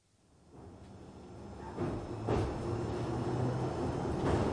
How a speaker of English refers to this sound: I sit on the Baker Street to Rickmansworth train, all stainless steel and neon, as we jog through the early evening,